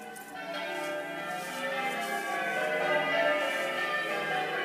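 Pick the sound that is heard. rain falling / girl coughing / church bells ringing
church bells ringing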